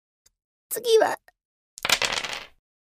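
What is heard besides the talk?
dice rolling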